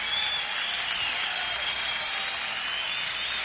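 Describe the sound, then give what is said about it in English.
An audience at a band's live show applauds steadily after a guitar solo, a dense, even wash of clapping with faint high whistle-like tones threading through it. No voices stand out. “A nice round of applause for Mr. Raymond Gomez for that beautiful guitar solo that he played.”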